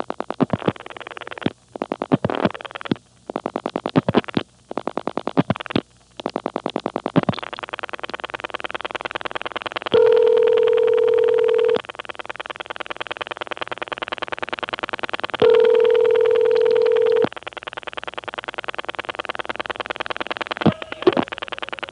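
On a telephone callback circuit in the Carolina telephone area, the line clicks in a rapid, irregular burst as a number is dialed, then settles into steady line hum broken by two long ringing tones.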